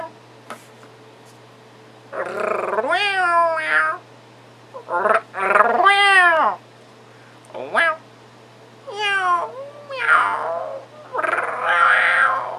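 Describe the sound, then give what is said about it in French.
A person imitates a cat with a run of drawn-out, wavering meows, about six vocal calls with short pauses between, some rising and falling in pitch, with no ordinary speech. “Là, je vais parler le chat pendant 30 secondes.”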